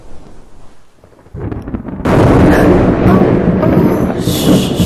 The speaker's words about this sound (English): I know the thunder is scary, but it can't hurt you.